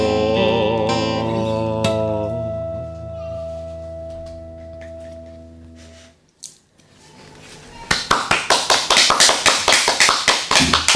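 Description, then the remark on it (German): A held, harmonic musical tone ends a song performed on a broadcast show and fades out, a brief quiet follows, then loud applause bursts in with sharp, steady rhythmic claps filling the last few seconds. “So viel Applaus hatten wir noch nie in dieser Sendung.”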